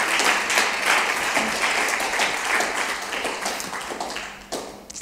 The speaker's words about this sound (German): Ein Applaus für den Robert.